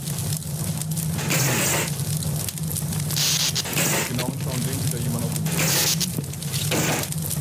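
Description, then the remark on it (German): A fire extinguisher sprays in a parking garage where the lights have gone out, loud bursts of harsh hissing that swell and fade several times over a steady low rumble, with muffled voices faintly underneath. “Testpersonen ist hier überlegt und erinnert sich, dass es da doch irgendwo einen Feuerlöscher gegeben hat.”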